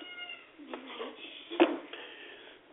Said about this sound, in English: please put that cat out. Push him out of his little door.